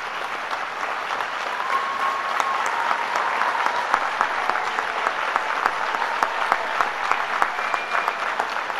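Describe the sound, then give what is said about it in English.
At a graduation ceremony, a large audience of families and friends claps steadily and loudly for the standing graduates: a dense, continuous patter of many hands with a few faint whistles or cheers, sustained throughout without any talking. “So you stay up, the graduates, because your cheering section has applauded you.”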